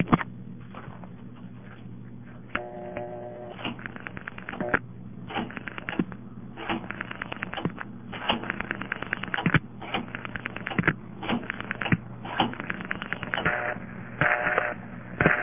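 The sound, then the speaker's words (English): Over a telephone line, a step-by-step exchange on the RI-7 (747) prefix in Spokane, Washington, clatters through a call to a payphone, recorded September 7, 1970: bursts of rapid mechanical clicks and relay chatter, repeated in groups over a steady low hum, with no talking. “It's also a step, exactly the same as the other one, except I think the dial tone sounds a little bit different, so I'll dial the payphone number.”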